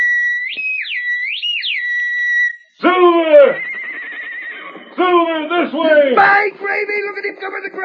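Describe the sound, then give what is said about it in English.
A shrill, warbling whistled danger call by Tonto rises and falls for a couple of seconds, then the white stallion Silver answers with loud whinnies, two bursts in quick succession. “Sound the danger call, Tonto.”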